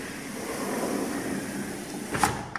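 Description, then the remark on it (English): A newly installed outer sliding patio door, one of a double set, rolls along its track with a steady rumbling glide, then bumps shut with a sharp knock near the end, followed by a faint click. “Let's close the outer patio door.”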